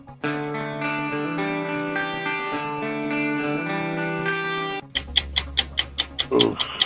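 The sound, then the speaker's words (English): Game show countdown clock music for a 60-second round in the mystery category: a sustained electronic synth chord plays loud and steady, then gives way to a brisk, regular ticking over a low drone, with no one talking. “60 seconds on the clock in the mystery category. Your time begins when Paul plays the music.”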